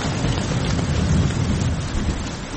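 heavy rain with thunder

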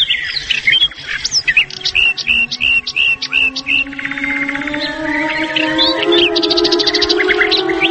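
birds singing

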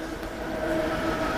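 passing train on railway

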